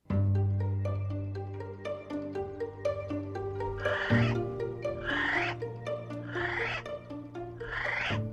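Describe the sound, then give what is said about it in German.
A kiwi, the flightless, chicken-sized ground bird that is New Zealand's national animal, calls in a series of four harsh, rising cries at a steady pace, heard over a low, sustained droning tone that runs through the whole recording. “Schöne Vogelstimmen klingen anders.”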